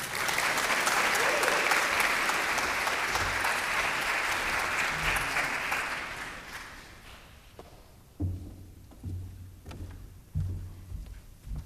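An audience at Criswell College applauds steadily and loudly for about six seconds to welcome a guest speaker, then the clapping thins out and fades, leaving scattered claps, shuffling and low sounds of movement.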